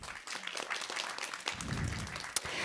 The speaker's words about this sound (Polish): Proszę o brawa.